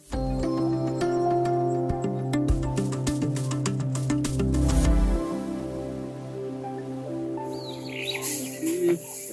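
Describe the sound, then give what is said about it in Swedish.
Rhinoceroses grazing: a run of sharp tearing and crunching bursts over a low rumble, fading after about five seconds, with birds chirping steadily throughout. No one speaks. “Ja, det ni hörde här var ljudet av betande noshörningar”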